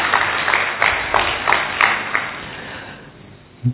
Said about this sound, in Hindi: हम सभी की ओर से डॉक्टर बीके स्वीता का जोरदार तालियों के साथ स्वागत है।